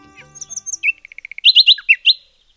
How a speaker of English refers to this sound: The beauty of bird song will abide as long as the natural world abides.